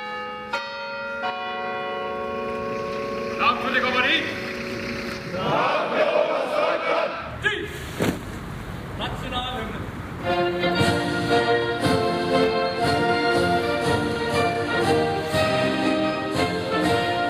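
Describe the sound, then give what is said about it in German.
Church bells ring out in a dense, overlapping peal, their bright tones struck repeatedly and layered over a steady murmur of a crowd, growing fuller and louder in the second half, interrupting a command handover ceremony of Jägerbataillon 291 of the Franco-German Brigade. “Gestört wird das Jägerbataillon 291 der deutsch-französischen Brigade dann doch noch von der Kirche.”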